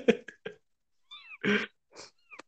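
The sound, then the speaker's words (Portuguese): A female cat lets out a string of short meows and chirpy trills, some rough and throaty, in uneven bursts over a couple of seconds with no one talking. “Mas gato. essa gata não para quieto, como é que é?”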